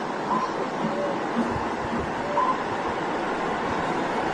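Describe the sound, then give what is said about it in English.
A steady, broad wash of ocean surf rolls on without pause, a continuous hiss and rumble of waves with no talking. “It's so nice to sit here listening to the sound of the ocean.”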